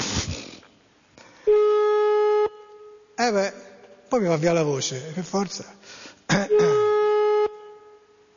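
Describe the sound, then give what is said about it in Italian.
Two long, steady ringing tones of a phone call going unanswered, each about a second, spaced several seconds apart, with a man speaking in between them. “Vedo che per il momento nessuno risponde qui. Della segreteria telefonica.”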